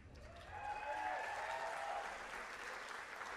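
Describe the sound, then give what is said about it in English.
A large festival audience claps steadily, a dense wash of hands with a few cheers and whistles rising over it, sustained and fairly loud before easing slightly toward the end. “I don't know if that applause means weird or not.”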